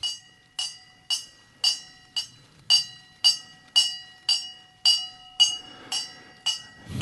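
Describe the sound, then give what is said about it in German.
A small bright bell, rung by pulling a small hidden rope stretched through a forest, rings in quick, steady strokes, about a dozen of them roughly twice a second, each clear metallic chime overlapping the last, with no talking. “Es klingelt. Und zwar ist versteckt ein kleines Seilchen hier, wo man dann ziehen kann.”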